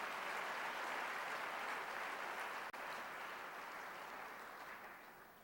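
An audience at the end of a lecture program applauds steadily, a dense wash of many hands clapping at an even level, with a brief dip midway before the clapping resumes and slowly tapers toward the end.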